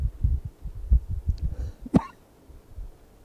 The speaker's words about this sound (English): you want to cough? Okay, good cough.